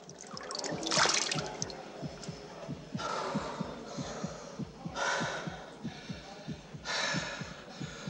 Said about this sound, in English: In the bathroom, he rests his shades on the sink and splashes his face with water.